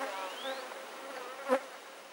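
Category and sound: insect, bees buzzing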